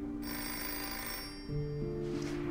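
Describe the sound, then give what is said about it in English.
A telephone, which Ruby then answers, rings continuously with a steady, bright electronic tone that shifts pitch partway through, fairly loud, with no voices. “Ruby answers the phone.”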